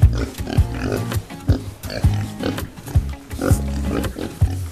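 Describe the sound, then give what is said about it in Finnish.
Several pigs grunt and snort in a steady, overlapping rhythm of short low bursts on a jointly owned farm in Somero, Finland, with no talking over them. “Nykyään syön sitten jopa sikaa, kun näen, että ne saa tuolla tavalla kasvaa onnellisina.”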